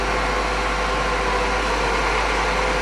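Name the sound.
car engine running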